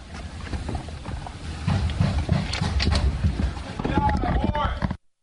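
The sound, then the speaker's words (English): Heavy banging on Roger Stone's door as FBI agents arrive to arrest him, a series of loud, irregular thuds and knocks over a muffled background of voices and commotion, ending abruptly. “Did you hear that? Banging on the door.”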